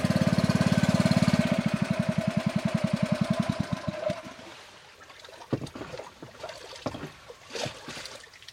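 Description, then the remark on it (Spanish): A boat motor on the Amazon River, after leaving Puerto Nariño, runs loudly with a steady, low, rhythmic chug that slows and dies out after about four seconds as the driver switches it off, leaving quieter lapping and splashing water sounds. “Aturdida por el ruido del motor, le pido al conductor que lo apague.”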